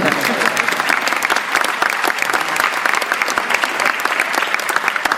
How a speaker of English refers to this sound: Yeah, you can clap.